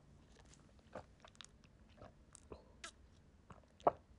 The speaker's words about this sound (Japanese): あ、さっきごくごく飲んでたんだけど、今ちょびちょびしか飲めなくなってる。でもちょびちょびだけど、今意外と受け付けた。